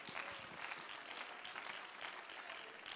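An audience claps hands together to give thanks to the Lord, in steady, dense applause, a loud continuous patter of many overlapping claps with no voices standing out.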